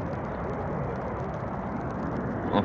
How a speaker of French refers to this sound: Les avions survolent Hyde Park